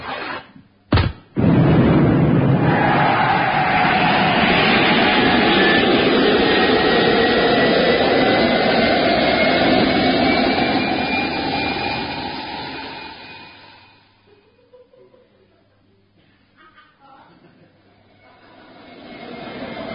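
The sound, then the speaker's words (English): A couple of sharp clicks, then a loud, steady rocket-like engine roar surges up and sustains for about ten seconds before fading away into quiet rumbling. “Are you about to blast off?”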